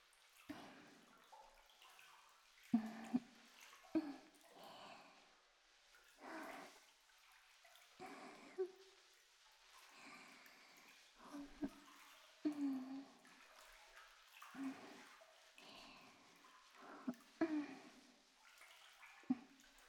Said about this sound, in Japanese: お肌もふやけている分、力加減には気をつけないと。こうして泡のぬめりを利用して優しく優しくこすっていきますね。